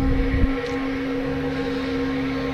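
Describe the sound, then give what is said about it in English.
A hometown paper mill whistle, sounding for the last time, blares as one steady, low-pitched, horn-like tone, rich in overtones and unbroken throughout, with a brief low rumble at the start. “You're listening to the last sounding of the paper mill whistle here in our hometown.”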